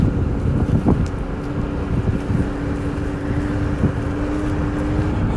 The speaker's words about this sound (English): And now we're taking a scooter through the canals to get home. It's, we are living, but I'm on a scooter, so I'm trying not to die.